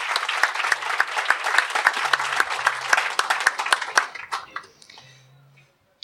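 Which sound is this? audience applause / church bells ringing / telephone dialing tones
audience applause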